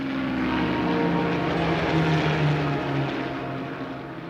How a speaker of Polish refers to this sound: 17 września 1944 roku, okupowana przez Niemców południowa Holandia. Spokój terenów położonych dotychczas z dala od linii frontu przerwał ryk setek silników lotniczych.